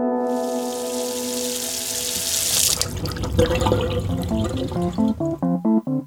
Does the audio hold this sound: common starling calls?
no